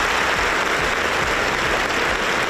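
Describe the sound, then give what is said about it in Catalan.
Sustained applause from a large audience in an auditorium, breaking a minute of silence just before a play in the Sant Antoni festival programme: a dense, steady wash of many hands clapping at an even loudness with no voices standing out. “Un silenci que es trencava amb aquests aplaudiments que ara escoltau a l'auditorium just abans d'un dels actes previstos dins el programa de festes, l'obra del Joaquín.”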